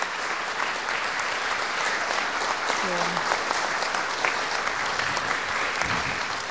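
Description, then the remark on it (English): A steady round of applause from a crowd, dense and continuous clapping at a fairly even loudness for several seconds, with a brief low vocal murmur partway through. “But can we just give just a round of applause for just acknowledging them?”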